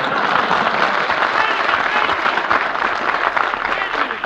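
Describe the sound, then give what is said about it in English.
Sustained audience applause, a dense, steady wash of many hands clapping at even loudness for several seconds, with no voices standing out above it. “…, there is no room on this program for two orchestra leaders when only one of them has talent, and I'm thanking you, ladies and gentlemen, for your applause in advance.”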